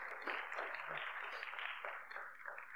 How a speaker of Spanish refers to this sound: Den un aplauso a Dios por la vida de ellos.